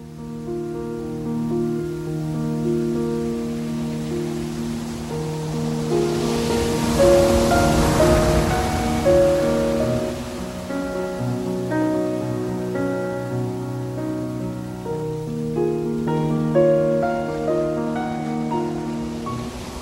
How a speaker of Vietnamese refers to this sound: Khi gió nổi, sóng biển ngầu bọt lên. Khi mây đỏ sẫm lại, gió lặng xuống, thì biển trông như một khối đá hoa màu hồng. Nước biển khi xanh khi trắng, nhưng dù biển lặng đến đâu, lúc nào cũng có tiếng nước vỗ nhẹ vào bờ.